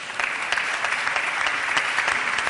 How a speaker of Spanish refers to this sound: Y por último, la Escuela Politécnica Superior de Elche y la Escuela Politécnica Superior de Orihuela a los ingenieros industriales e ingenieros agrícolas. Hace 20 años ya. Un aplauso para ellos.